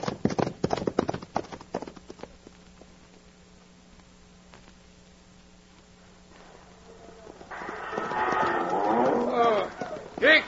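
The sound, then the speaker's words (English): Ponies gallop along a dusty trail in a rapid, loud drumming of hoofbeats that quickly fades, leaving a low steady hum before bellowing, moo-like animal calls rise toward the end. “Now, turn those ponies and pound that dust.”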